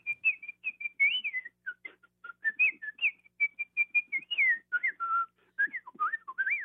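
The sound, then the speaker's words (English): A person whistles a quick, lilting bird-like melody imitating a little bird theme played by the piccolo, with rapid chirpy runs and trills in a high register, fairly loud, with no talking. “I particularly like the little bird and played by the piccolo in Prokofiev's Peter and the Wolf.”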